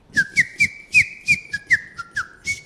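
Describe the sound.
A person whistles a chirpy bird imitation in a studio in Paraty, a quick series of about a dozen short, bright, high notes with slight upward slides, in a bouncy rhythm with no talking.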